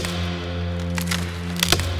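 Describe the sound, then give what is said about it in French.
A few brief creaks and cracks of tree branches sound at intervals over a steady low humming drone, moderately loud, with no one speaking. “Ils entendaient toutes sortes de bruits, comme des craquements provenant des arbres.”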